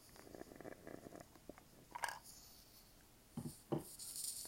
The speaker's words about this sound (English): Let me take a half-hearted sip of this iced coffee, which I have recently got balls deep into as well.